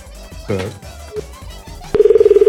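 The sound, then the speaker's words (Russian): A phone call to Voronezh being dialed: a couple of short electronic beeps, then a steady, slightly pulsing line tone starts abruptly and holds loud to the end. “Я звоню нет в Воронеж. Нет доступа к данной услуге.”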